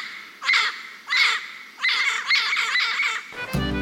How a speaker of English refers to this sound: Long John's parrot, Captain Flint, most likely a yellow-crowned Amazon, went everywhere with him, and he had much to say.